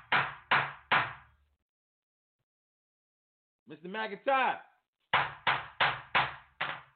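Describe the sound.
A judge in divorce court bangs a gavel three times in quick succession, a voice briefly speaks, then five more sharp, loud wooden raps follow in a steady rhythm.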